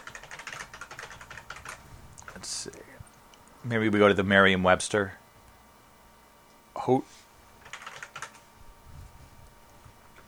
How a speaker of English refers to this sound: I'm like typing with both hands here.